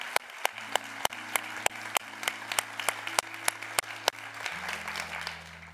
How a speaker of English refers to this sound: So we're going to applaud that.